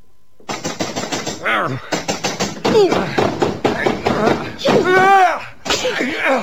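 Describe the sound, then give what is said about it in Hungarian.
A door to a lady's room is battered and forced in with rapid, heavy blows in bursts, while voices shout loudly for help over the crashing. “Segítség! Tolvajok! Betörték az ajtóm!”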